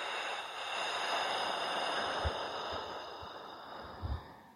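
In a guided breathing exercise, after a deep inhale topped up with four small extra breaths, a long, slow, breathy exhale flows steadily for several seconds, soft, over a faint steady tonal drone, with a few dull low thumps near the end.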